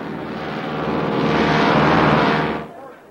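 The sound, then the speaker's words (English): A steady, broad engine drone of a twin-engine plane flying above the clouds swells and holds for a couple of seconds, then cuts off abruptly near the end. “Now, sun glints off the sleek body of a twin-engine plane as it navigates above the clouds.”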